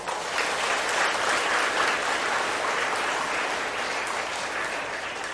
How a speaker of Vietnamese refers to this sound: Cảm ơn các bạn đã là lắng nghe rất là hứng thú, và đã cảm ơn sư bằng những tràng pháo tay làm cho sư quên đi mọi sự là mệt mỏi.